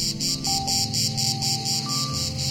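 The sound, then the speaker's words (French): A male cicada sings in a loud, shrill buzz of over 80 decibels that pulses in a steady rapid rhythm, continuous throughout, with no voices. “Pour réussir à produire un son qui dépasse les 80 décibels, la cigale mâle est bien dotée.”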